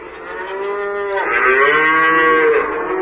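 cow mooing

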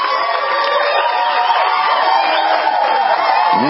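crowd cheering and applauding

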